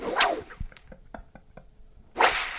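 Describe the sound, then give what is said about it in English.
Two loud whip cracks land about two seconds apart, each a sharp hissing snap, with a few faint ticks and knocks in the quiet between them. “Jesus, you're really whipping.”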